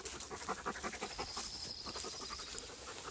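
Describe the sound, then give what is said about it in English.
A dog, Ushula, pants steadily on a walk in quick, rhythmic breaths, a continuous airy huffing with a hissy high edge, fairly loud and unbroken, with no talking over it. “This guy is such a good dog.”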